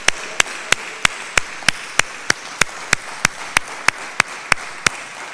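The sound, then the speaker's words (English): Steady, rhythmic audience applause at Mas Mariam: about seventeen sharp, evenly spaced claps, roughly three per second, over a soft background hiss, with no talking. “I think we should give Brother Jair another well-deserved round of applause.”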